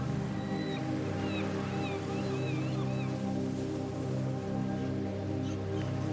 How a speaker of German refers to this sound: Es rauschen die Wellen und die Möwen singen ein Lied. Ihre Schreie schneiden durch die Luft wie alte Seemannslieder.